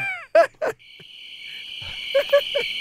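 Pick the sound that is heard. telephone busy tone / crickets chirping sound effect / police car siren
crickets chirping sound effect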